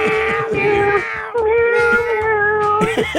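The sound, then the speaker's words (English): A person sings Happy Birthday to the late Betty White entirely in loud meows, imitating a cat, with sustained pitched notes rising and falling in a melody and brief breaks between phrases. “Got the office and talks like a cat, singing happy birthday to late Betty White on her birthday.”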